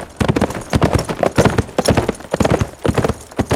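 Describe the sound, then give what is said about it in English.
A horse's hooves clip-clop in a quick, steady rhythm of sharp knocks, fairly loud, as the horse leaves, continuing throughout with no one speaking. “Looks to me like Rusty's lost a horse.”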